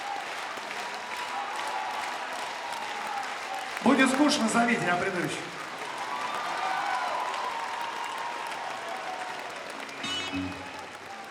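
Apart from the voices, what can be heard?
audience applause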